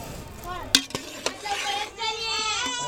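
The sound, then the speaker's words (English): Amla fruit boils in a pot of water with citric acid and salt over an open fire, a steady sizzling hiss broken by a few sharp clinks of a utensil against the pot, with voices chattering in the background. “She blows on the fire to keep it going and keep the amla cooking.”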